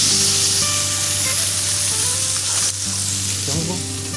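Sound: fish sizzling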